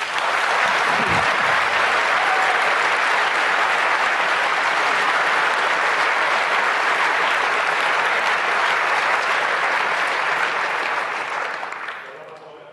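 Sustained applause from an audience, a dense steady wash of many hands clapping for about twelve seconds before gradually tapering off at the end.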